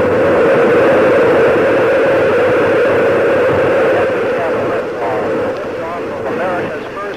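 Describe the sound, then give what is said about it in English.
Space shuttle liquid hydrogen-oxygen main engines ignite at launch, seen in slow-motion film, in a loud, steady, dense rumbling roar that eases slightly in the final seconds, with faint garbled radio voices mixed underneath. “This is a slow motion film of the high technology liquid hydrogen oxygen engines lighting off.”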